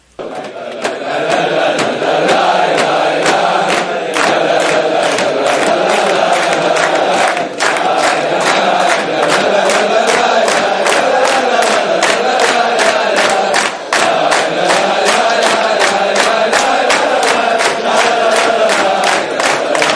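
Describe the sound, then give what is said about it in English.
A crowd of voices sings and shouts together in a dense, sustained roar, with steady rhythmic pulses running through it and no pauses for about twenty seconds. “When we sing like this and yell, the Creator is great, He becomes great.”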